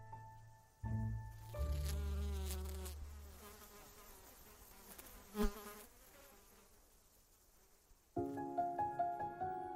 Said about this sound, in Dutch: Zet maar eens wat extra bloemen in je tuin of op je balkon. Dan komen ze vanzelf. En zie je tussen al die bijen vast ook een heel gelukkige hommel vliegen.